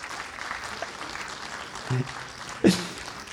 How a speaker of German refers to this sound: Danke, Applaus einmal.